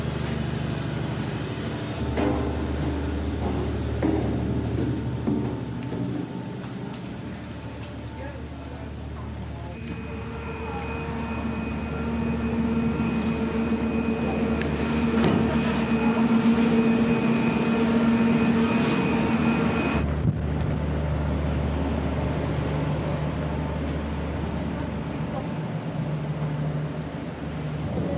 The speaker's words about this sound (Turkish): En iyi sesi buradan alırsın. Şu anda en çok burada vibrasyon ve makinenin sesi var. Çünkü burada döndüğü için.